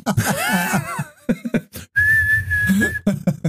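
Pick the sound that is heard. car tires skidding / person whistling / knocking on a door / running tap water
person whistling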